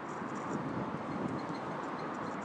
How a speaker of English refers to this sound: A squeaky car there.